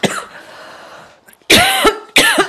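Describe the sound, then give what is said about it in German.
Forceful coughing after choking on water: a rough initial cough trailing off, a brief pause, then two loud harsh coughs in quick succession, sounding strained as if clearing something caught in the throat. “Ich habe mich verschluckt am Wasser.”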